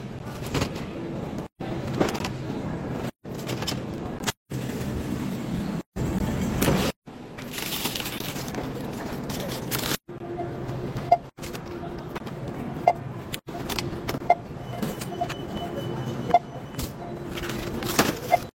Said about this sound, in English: Hopping in the car now to go give him his drinks.